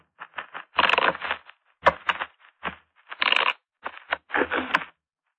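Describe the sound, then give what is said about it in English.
Playing cards being shuffled before a card draw, a series of quick riffling bursts with short pauses between them, crisp and papery, with no voices over it. “You may shuffle.”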